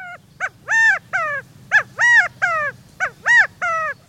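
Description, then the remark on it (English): A California quail calls loudly, a series of about nine sharp, nasal notes in uneven clusters, repeated insistently over a low background hum with no one talking. “If you lived in the arid West, perhaps you were awakened by the insistent inquiries of a California quail.”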